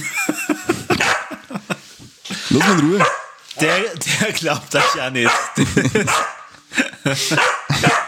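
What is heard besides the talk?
dog barking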